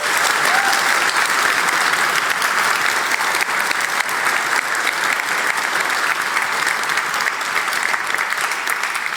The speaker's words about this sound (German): Also vielen, vielen Dank und bitte einmal kräftigen Applaus.